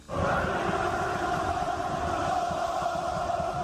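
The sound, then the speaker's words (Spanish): A stadium crowd of more than 20,000 fans roars in a sustained ovation for footballer Marcelo, formerly of Real Madrid, at his presentation with Olympiacos at the Georgios Karitzakis stadium, a dense wall of cheering and chanting that holds steady and loud from start to finish with no one speaking over it. “Es la ovación a Marcelo, el ex del Real Madrid, ayer en su presentación con Olympiacos ante más de 20.000 aficionados en el estadio Georgios Karitzakis, con el dorsal 12 a la espalda y vestido de rojiblanco, que son los colores de su nuevo equipo.”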